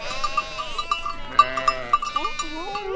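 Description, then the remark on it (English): A flock of over 700 sheep and goats at Kirbet Ein Kazalia, a near barren plain with a small spring, bleats in overlapping calls, some wavering and nasal, with bright metallic clinks scattered throughout, as if from bells worn by the animals. “A handful of families live here, including more than a dozen children and over 700 sheep and goats.”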